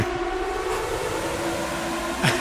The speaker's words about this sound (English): I thought I couldn't find a proper quiz buzzer that was free to use online, so I found it's like an air raid siren, I think, and it goes for about a half a minute.